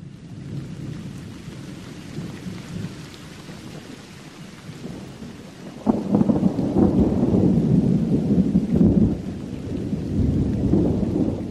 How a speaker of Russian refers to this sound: На закате солнца началась гроза и прихватила часть ночи. Молнии полыхали так ярко, что в темной комнате я видел секундную стрелку на часах, зеленую от вспышек. Грохот стоял такой, словно горы валились в Телецкое озеро из Поднебесья.